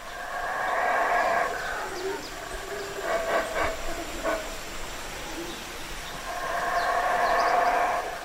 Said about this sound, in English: As I drive into the reserve, I hear the sound of howler monkeys, Belize's largest primate. It feels like a perfect welcome to this special place. These vocalizations are designed to carry right through the jungle, and they do a really good job of it